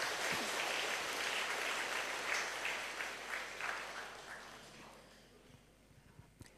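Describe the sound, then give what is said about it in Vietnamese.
A burst of audience applause given as a pledge to live by the truthfulness taught by the Buddha, dense rapid clapping at steady strength before thinning out and fading over the last couple of seconds, with a few scattered claps at the end. “Nếu quý vị thấy phát huy đức tính chân thật được Đức Phật dạy đó, trước đây nó đã từng là cá tính của mình rồi, và bây giờ nó cần trở nên là đặc điểm của lối sống chúng ta, thì hãy dâng cao một tràng vỗ tay thật lớn để cam kết.”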